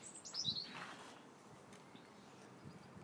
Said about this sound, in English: Some lovely birds singing, if you can hear.